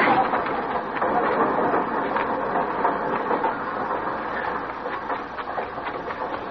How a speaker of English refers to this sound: Flora, don't you get on that train.